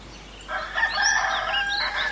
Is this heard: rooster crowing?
yes